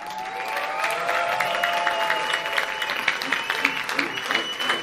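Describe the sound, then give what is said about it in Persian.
An audience of children claps steadily in a dense, sustained burst of applause for a special guest, with a few whistle-like tones rising above it near the start. “تشویق درست حسابی، خدای آبرو من نبرم.”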